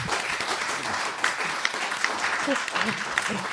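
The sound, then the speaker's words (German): An audience claps steadily for a few seconds, a dense, even patter of many hands with scattered sharper claps, while a few voices murmur faintly underneath. “Ich glaube, das ist einen kleinen Applaus wert.”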